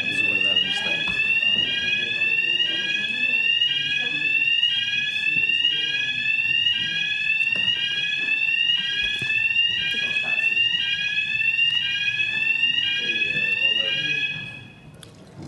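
A loud electronic fire alarm rings continuously, its rapid rising tones repeating steadily for about fourteen seconds, with faint voices murmuring underneath before it cuts off near the end.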